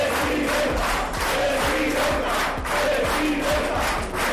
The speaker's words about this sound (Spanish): Lo pedían en las simbólicas pegadas de carteles en el arranque. Afiliados que aplauden y vitorean.